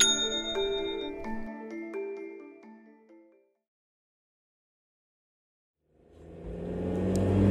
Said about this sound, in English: Meanwhile, Tanya drives furiously.